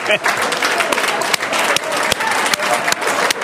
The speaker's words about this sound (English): All right, there it is. The claps are building here.